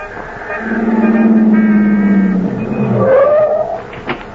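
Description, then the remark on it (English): A taxi cab pulls up, its engine droning loudly and then rising in pitch before a brief tire squeal and a short knock as it stops. “Desperately, you look up and down the street. Cabby! Cabby!”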